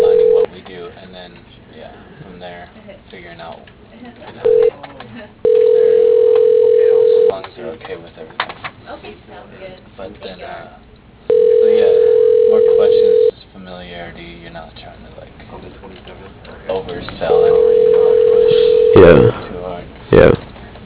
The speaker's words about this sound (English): So just gonna let it ring a few more times and hang out probably.